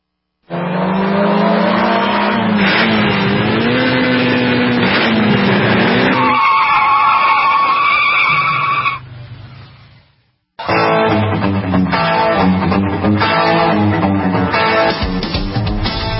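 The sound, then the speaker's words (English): Racing cars going round and round on a road roar and skid with loud, sustained tire squeals and braking screeches, engines whining up and down in pitch, a brief quiet gap before another burst of screeching and engine noise. “Out there on the road, just going round and round and round, and how many brakes are getting applied right now?”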